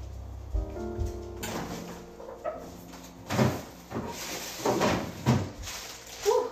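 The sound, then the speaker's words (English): A refrigerator door is pulled open and later thumps shut, with a few knocks and the rustle of rummaging through its contents in between, as someone grabs a carrot or two while cooking. No voices. “I'm gonna go over to the fridge and grab a carrot or two.”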